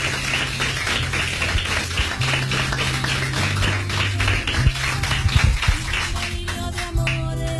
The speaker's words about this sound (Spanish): Lo que hacemos, el aplauso más grande para vosotros.